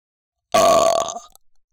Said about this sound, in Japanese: お下品なゲップ、しちゃった？もっかい行きまーす。